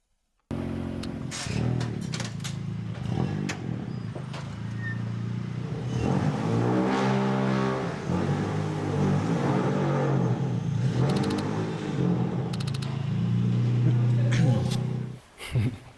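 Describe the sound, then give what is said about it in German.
A loud rally car with a big engine and no insulation, stripped to save weight, revs hard and continuously, its pitch climbing and falling through repeated throttle bursts, with a few sharp pops before it cuts off abruptly at the end. “könnte das sein, dass die so laut sind? Also natürlich, weil es ein fetter Motor ist”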